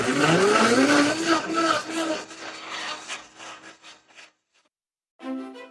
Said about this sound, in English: But first, I'm going to get back to making this cocktail in a blender.